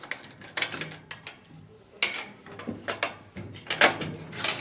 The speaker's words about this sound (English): unlocks the door to his one-room flat.